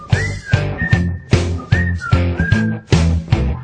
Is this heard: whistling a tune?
yes